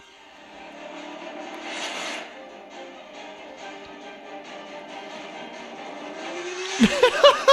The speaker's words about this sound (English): it makes motorcycle noises